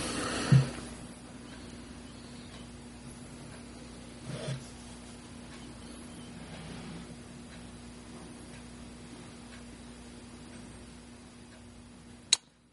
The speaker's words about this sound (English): And there's the clock. Tick, tick, ticking.